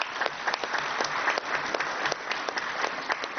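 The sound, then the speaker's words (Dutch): An audience in Hilversum claps steadily for the 16 young members of the children's municipal council, a dense patter of many hands at a fairly even level for a few seconds, with no one speaking over it. “Ja, applaus!”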